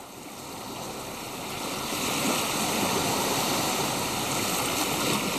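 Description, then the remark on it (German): Steady rushing of sea waves, a broad continuous wash of surf that swells slightly louder after the first couple of seconds and then holds, with no voices. “Wenn ich dieses schöne Meeresrauschen höre, dann will ich doch sofort wieder ins Wasser springen und mich abkühlen.”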